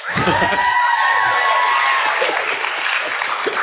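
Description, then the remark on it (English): A crowd cheers loudly and continuously for a few seconds, with whoops and shouts layered into a dense, sustained roar of voices. “If you think we were going to see behind the veil, that kills everybody. Cheer now.”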